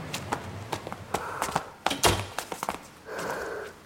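A string of dull thumps and taps as snow is knocked off shoes in cold weather, before entering a house so snow isn't tracked into the stairwell, irregular and fairly quick, with brief scuffing and scraping sounds between the knocks and toward the end.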